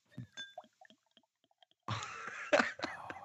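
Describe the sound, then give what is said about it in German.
A few soft clicks and taps, then beer being poured: a steady fizzy rush of liquid with a couple of louder splashing surges toward the end. “Moment, jetzt versuche ich das Einschenkgeräusch noch zu.”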